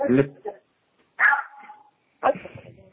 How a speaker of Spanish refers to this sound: Pero la verdad es que no se escucha, se corta, y luego aquí tengo perros, imagínate, canijo. No dejan oír, espérame tantito.